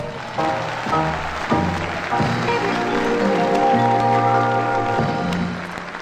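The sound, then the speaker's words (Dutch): Steady audience applause for the bucket collectors of a charity collection in the Netherlands, a dense crackle of many hands clapping, runs throughout under sustained musical tones that shift pitch every second or so, the loudness holding even before easing slightly at the end. “En dan klappen we alle collectanten van dat kleine Nederland.”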